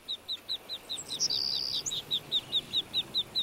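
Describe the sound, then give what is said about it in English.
Ducklings peep in a quick, steady series of short, high-pitched calls, with one longer, drawn-out whistle-like peep partway through. No one speaks. “Ducklings love water, but if they have a big bowl of it, they'll climb right in and get wet and cold.”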